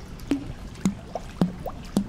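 A female diamondback terrapin splashing at the edge of the water in a brackish exhibit tank, looking for her food: four wet plops and slaps in a steady rhythm about half a second apart, each with a short gurgling tail, with no talking.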